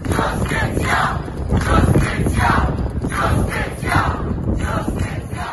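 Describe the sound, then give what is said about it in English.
A large crowd gathered outside an emergency cabinet meeting, waiting for the ministers to come out, shouting and chanting together, a dense roar of many voices with rising and falling swells of cries, loud and continuous throughout. “Later in the day, the Prime Minister called an emergency cabinet meeting, and a crowd gathered outside, waiting for them to come out.”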